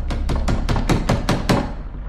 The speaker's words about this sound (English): bangs on Mia's bedroom door.